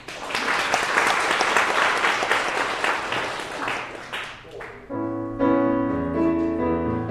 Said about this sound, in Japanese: 手拍子をいただいたね。